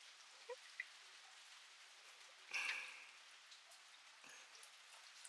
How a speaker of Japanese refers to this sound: それに、雨と聞くと、やはり濡れてしまうイメージが強いですよね。できれば屋内に入って雨宿りしたいですし、避けたいもの。